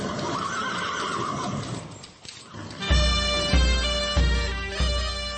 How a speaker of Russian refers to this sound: Вдруг навстречу ржанье, ржанье, конский топ, рога дальний звук и собачий лай.